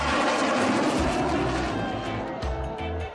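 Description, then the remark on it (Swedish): Sweden's own domestically built fighter jet roars past over Stockholm toward Kungsholmen with a loud, steady, full-bodied rush of engine noise and deep rumbling underneath, holding strong for about three seconds before easing slightly. “Sveriges alldeles egna stridsflygplan.”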